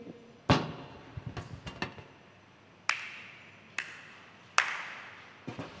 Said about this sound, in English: This is a musical instrument God has given to all of us. The ability to clap. It's like a tambourine as you bang it.